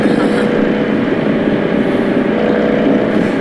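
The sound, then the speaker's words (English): A loud, steady motorcycle engine drones with a constant rumbling hum and no change in pitch, running continuously without any talking. “I don't have to put in a motorcycle noise.”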